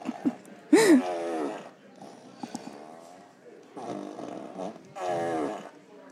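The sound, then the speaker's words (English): Several buzzy, drawn-out fart sound effects from a remote-controlled prank gadget that comes with 15 different farts, played in a loose sequence with wavering pitch, separated by short pauses and faint background voices. “15 different farts that come with it.”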